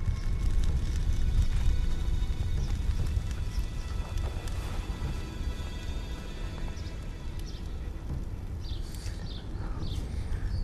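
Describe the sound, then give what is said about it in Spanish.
Horse hooves clip-clop steadily over a continuous low rumble, fairly close and moderately loud throughout, with no one talking. “¿Qué hago con el caballo? Átalo detrás del carro, mujer.”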